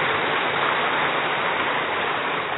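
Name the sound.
audience clapping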